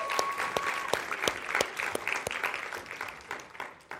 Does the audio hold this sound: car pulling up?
no